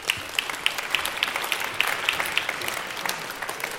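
A crowd claps steadily, a dense patter of many hands with a few sharper claps standing out, sustained and fairly close for the whole stretch, with no one speaking.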